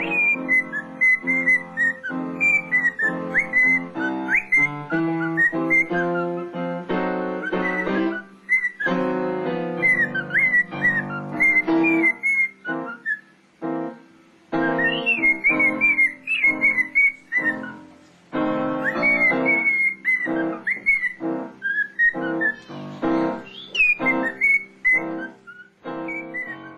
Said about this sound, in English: and the parrot joins in and apparently steals the show.